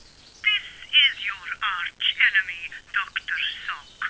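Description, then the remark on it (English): A telephone rings with an incoming call: a bright, warbling electronic ringtone repeating in quick bursts for several seconds, fairly loud, with nothing else alongside it. “Why, what's this? An incoming call on my shoe phone.”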